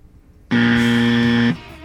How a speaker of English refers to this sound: How about there isn't an answer? Yeah, go ahead and gong me again.